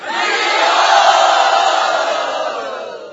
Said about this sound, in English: And all the devotees would roar. Much louder than that.